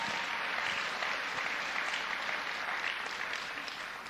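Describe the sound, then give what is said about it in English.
A crowd applauds steadily in praise of Jesus, many hands clapping in a dense, continuous wash of sound with no single claps standing out, holding at an even loudness for a few seconds before easing slightly. “Yes, give a clap to Jesus.”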